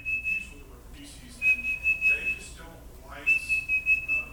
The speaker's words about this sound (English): That sounds like one of the varied calls of a tufted titmouse. That is a bird that has quite a repertoire, but I'm guessing that, and I'd like to hear a little bit more, but if that's all there is, then I'm going to say tufted titmouse.